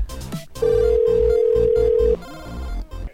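An outgoing phone call rings out with one long, steady electronic tone lasting about a second and a half, loud, over a quieter musical backing, with no one talking.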